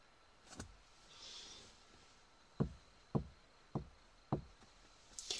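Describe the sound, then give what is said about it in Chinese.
Four firm, evenly spaced knocks on a door from a visitor waiting outside, followed by a brief rattling click as the door is opened to welcome him. Nobody speaks. “啊，他已经到门口等我了。好啊，就开门迎接，是不是一个小帅哥？”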